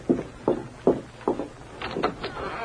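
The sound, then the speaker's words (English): Four steady footsteps at an even walking pace as a man comes to the door, followed by a brief cluster of knocking, rattling sounds like a door being reached and handled. No one speaks. “He's coming to the door. You answer it.”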